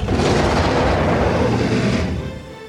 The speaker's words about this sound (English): The bickering is cut short when they suddenly hear the sound of giant wings and the roar of a dragon.